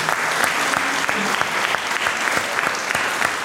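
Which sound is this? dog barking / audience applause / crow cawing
audience applause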